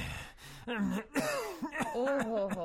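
A person with a cold lets out several rough, voiced coughs in an uneven burst, loud and throaty, with short pauses between them and no talking.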